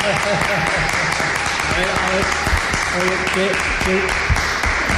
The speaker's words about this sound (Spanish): Ese bocineo, esa bocina que ha sonado de fondo, esos aplausos. La bocina significa pues que hemos hecho feliz a otra persona, a otro comprador que se ha aprovechado